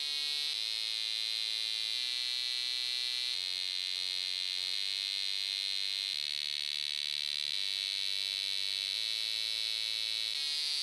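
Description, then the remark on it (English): A melody played on the bodies of cicadas that researchers have turned into cyborgs: sustained, harsh droning notes that step to a new pitch roughly every second, over a constant shrill high whine, with no talking. “That song is being played on the bodies of cicadas.”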